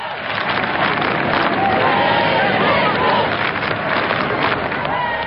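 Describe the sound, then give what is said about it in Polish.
A large crowd of faithful applauds and cheers steadily and loudly as Pope Benedict XVI passes through it after Mass, with many voices chanting the traditional greeting "Benedetto, Benedetto" above the dense wash of clapping throughout. “Po mszy świętej papież przeszedł przez tłum wiernych, serdecznie pozdrawiany oklaskami i tradycyjnym już okrzykiem Benedetto, Benedetto.”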